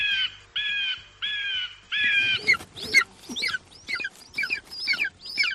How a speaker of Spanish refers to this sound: Estoy convencida de que no te estás enterando de nada, nosotros tampoco, pero es que se trata de dos águilas que le están dando al pico, nunca mejor dicho, esa expresión que decimos aquí. Te aseguro que entre ellas se han entendido a la perfección